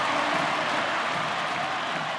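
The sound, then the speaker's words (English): A packed stadium crowd at Lord's roars and cheers in a dense, unbroken wall of noise, loud and steady throughout with no single voice standing out, as England win the Women's Cricket World Cup final. “England win the World Cup in front of a packed house at Lord's. Who go nuts in the crowd?”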